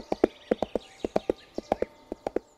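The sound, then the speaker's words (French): Horse hooves clip-clop in a steady trotting rhythm as a knight rides off on his horse, sharp paired knocks repeating about a dozen times, clear with no voices present. “Le chevalier noir monte alors sur son cheval et part accomplir la royale mission.”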